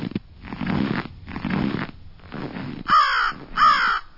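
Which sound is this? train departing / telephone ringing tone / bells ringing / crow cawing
crow cawing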